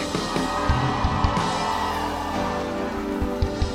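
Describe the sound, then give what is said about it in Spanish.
A large audience, told to shout loud, shouts loudly and continuously, many voices merging into a dense, roaring wall of sound with occasional sharper cries rising above it. “¡Grita fuerte!”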